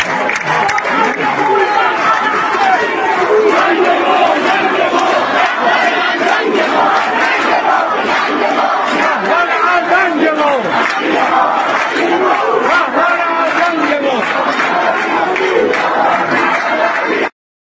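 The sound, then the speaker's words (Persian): A large crowd of protesters against the Islamic Republic shouts slogans in unison in the middle of the street, including 'Our shame, our idiot leader', a loud, continuous mass of voices with rhythmic chanted surges and overlapping cries that never let up for the whole stretch. “اینو خیلی راحت فریاد میزنن وسط خیابون دیگه.”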